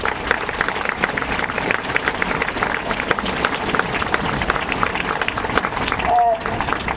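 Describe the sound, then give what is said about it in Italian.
Students at a school event in Sant'Era applaud to welcome the school's headteacher, dense clapping holding an even loudness for the full seven seconds, with a brief tonal whistle or voice-like sound near the end. “per cui chiedo un grosso applauso di benvenuto a Sant'Era.”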